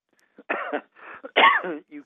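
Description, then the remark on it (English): A person coughs a few times in quick succession when someone laughs, raspy and fairly loud, with a throaty, phlegmy quality and brief pauses between bursts, no talking. “When you laugh, I cough.”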